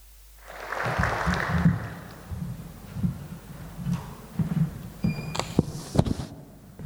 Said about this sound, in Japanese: 歓迎の意味を込めて拍手でお迎えいたしましょう。